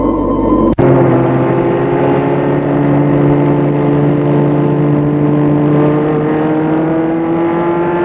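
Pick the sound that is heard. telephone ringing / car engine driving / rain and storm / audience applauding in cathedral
car engine driving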